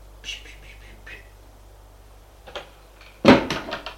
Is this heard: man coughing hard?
no